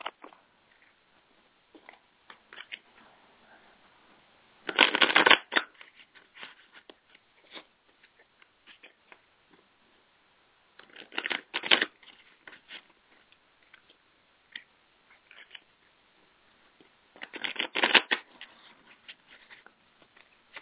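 A deck of animal cards being shuffled: three quick riffling bursts spaced several seconds apart, with soft tapping and handling noises in between and no talking.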